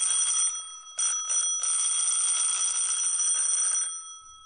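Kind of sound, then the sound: household object, doorbell ringing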